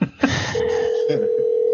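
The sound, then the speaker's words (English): Telephone dialing tones as a caller is called back: a short burst of keypad beeps followed by a steady, clear electronic tone held for over a second, moderately loud with no voices. “the star of the show tonight, the phone ringing, everyone.”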